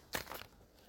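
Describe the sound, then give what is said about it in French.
A brief crinkling rustle of a piece of paper being picked up and handled, lasting a fraction of a second before fading into quiet room tone. “Et je vais choisir un bout de papier”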